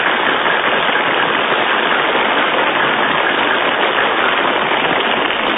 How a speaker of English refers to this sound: Please do not whistle or shout. Simply applaud.